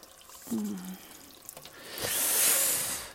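A kitchen tap runs hot water into a sink while dishes are washed, its steady rushing hiss swelling in the second half, with a few light knocks of dishes and a brief murmured voice near the start.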